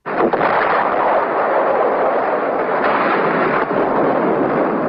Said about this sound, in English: Here's some sound, this again, from the U.S. military of fighting at Khe Sanh. You hear the planes, the bombs, the gunfire.